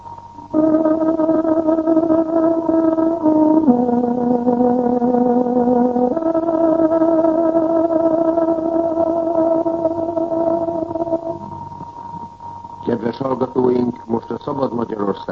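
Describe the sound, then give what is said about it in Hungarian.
A tárogató plays a radio time signal on Radio Free Europe's Hungarian broadcast, marking 15:00: a short, slow phrase of long, steady reedy notes, stepping down and back up in pitch. It fades out, and a voice begins speaking near the end. “Kedves hallgatóink, pontos időjelzést adunk, tárogatónk 15 órát jelez.”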